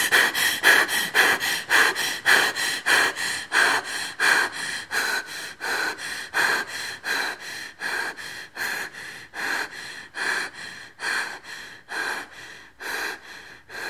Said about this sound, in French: La respiration, avec cet aller-retour entre inspiration et expiration, qu'elle soit humaine, comme dans cette apostille à la robe de Colin Roche en 2006, ou instrumentale.